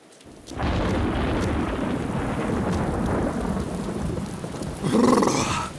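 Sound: thunderstorm with heavy rain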